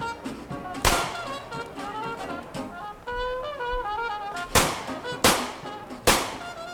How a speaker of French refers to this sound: Ce que vous entendez, c'est le pistolet qu'il a chipé chez lui. Il tire des coups de feu en l'air pour participer à la fête.